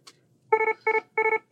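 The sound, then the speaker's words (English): A medical alarm's attention tone, a newly designed tone for alarms about a problem with a patient's medication: bright, buzzy electronic beeps in evenly spaced bursts, each burst pulsing quickly two or three times, repeating steadily after a faint click. “What you might do is you would announce an alarm by using something like this.”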